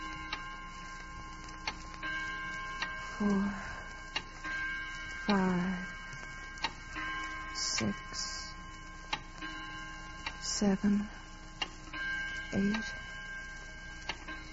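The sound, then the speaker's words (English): A clock ticks steadily at roughly one beat per second, each tick crisp, while brief low voices murmur underneath at a few points. “I suggest Gene be permitted to forget about big business while we all concentrate on the clock, Mr.”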